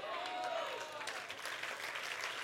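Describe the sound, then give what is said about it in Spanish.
Steady audience applause, a dense wash of many hands clapping at once, loud throughout, with a brief whistle-like tone near the start. “Ay Dios, yo no sé si usted, yo creo que ese aplauso usted se lo puede dar mejor al Señor.”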